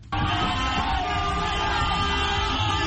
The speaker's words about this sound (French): Coup de klaxon, chant, cri de joie, la libération d'Ousmane Sonko et son numéro 2, Bassirou Diomaye Faye, a été accueillie dans une grande liesse. Plusieurs milliers de Sénégalais ont manifesté dans toutes les villes du pays, comme ici à Mbao